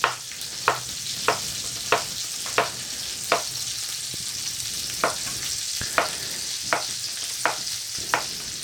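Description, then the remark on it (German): Zucchini strips sizzle steadily in a frying pan, a continuous hiss broken by a dozen sharp clicks, like a utensil tapping or scraping the pan at a regular pace. “Jetzt habe ich schon welche in die Pfanne geschmissen.”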